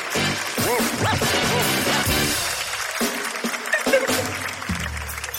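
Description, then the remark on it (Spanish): Loud, dense applause for a song runs steadily for several seconds, with voices shouting and cheering over it at the start before the clapping carries on alone. “Un fuerte aplauso, está linda la canción, está muy linda.”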